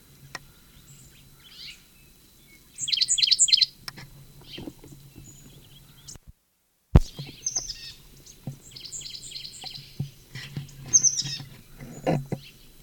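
A sycamore bird's call answered by another from upslope to the southeast: bursts of high, rapid chirping notes in a short phrase, then a longer, busier series of calls, over a low steady hum.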